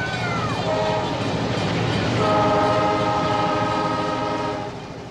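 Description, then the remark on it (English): A toy train set runs at full throttle, a loud steady rumble and clatter with sustained horn-like whistle tones, easing off slightly at the very end. No one speaks. “No, probably just his train set.”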